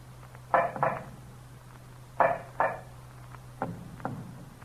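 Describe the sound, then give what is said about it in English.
Hollow knocks of an earthenware jug against a dungeon wall come in three double raps, the first two sharp, the last pair fainter and muffled, like an answer repeated from the other side of the wall. No one speaks. “Each time I knocked, the knocks were repeated on the other side of the wall.”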